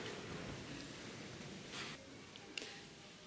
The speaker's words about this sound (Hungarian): Köszönjük neked az esőt